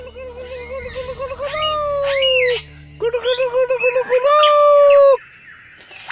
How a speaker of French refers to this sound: Un magnifique oiseau lyre, aussi appelé ménure superbe. Refait ? Il possède la faculté d'imiter le chant des autres oiseaux ou divers sons entendus. C'est bien celui-ci. Y compris la voix humaine ou le bruit d'une tronçonneuse.